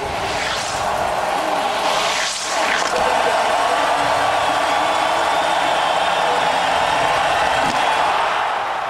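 A large crowd of about 20,000 cheers at the Olympic ski jump in a loud, steady roar that holds for the full nine seconds, with brief surges of higher-pitched shouting near the start.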